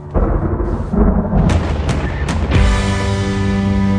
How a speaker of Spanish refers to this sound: 7:14 de la mañana, llueve.